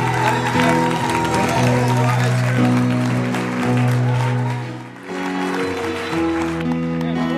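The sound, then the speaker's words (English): A church audience claps and shouts loudly and steadily for several seconds, giving Jesus a shout of praise, the dense applause and cheering mixed with sustained keyboard chords, easing briefly before picking back up. “Donner une main d'applaudissement et un cri vers l'Éternel?”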